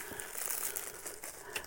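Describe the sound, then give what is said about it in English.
A plastic Elusive Concepts bag, the bag a mask came in, crinkles as it is handled: a steady stream of crisp rustles and crackles with a few sharper crunches, no one talking. “Apparently an Elusive Concepts bag.”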